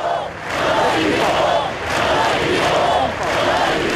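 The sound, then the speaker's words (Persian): Thousands of people gathered in the main streets of Barcelona, Spain, alongside the Spanish prime minister and king, chant the slogan "We are not afraid" in unison, rising and falling in steady rhythmic waves, with a dense wash of clapping and voices throughout. “هزاران نفر در خیابان‌های اصلی بارسلون گرد هم آمدند و در کنار نخست وزیر و پادشاه اسپانیا یک دقیقه سکوت کردند و سپس با دست زدن فریاد کشیدند که ما نمی ترسیم.”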